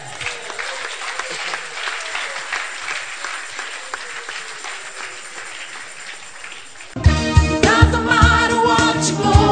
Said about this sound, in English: Are you clapping?